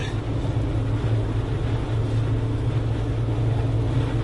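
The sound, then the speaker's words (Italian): A steady, loud low rumble of a car engine and road noise, droning evenly throughout with a deep hum, heard from inside a car as it overtakes a Dutch truck; no one speaks. “Devo andare all'estremo. Devo andare, lo passo sto camion.”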